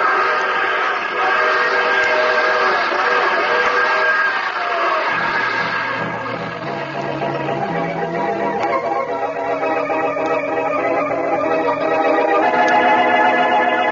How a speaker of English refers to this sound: Oh, crossing up ahead. Better give them a whistle.